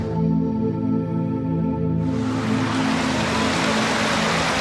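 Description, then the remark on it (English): A low mechanical hum with a steady tonal drone gives way to a dense, continuous rush of splashing water from a small waterfall spilling into a running stream in the Costa Rican area of a recreated rainforest biome. No one speaks. “There's this mini little waterfall, this little stream running through it all.”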